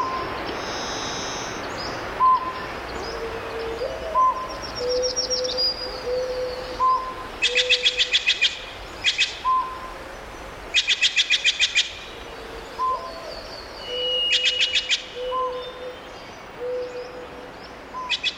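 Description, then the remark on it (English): Several forest birds, large and small, call together among redwood trees in Northern California: low, steady owl-like hoots around a repeated whistled note, with bursts of rapid high chirping trills at intervals, with no voices present. “We leave you this week in the redwood forest of Northern California, and with some of the birds, large and small, that make their homes among the majestic trees.”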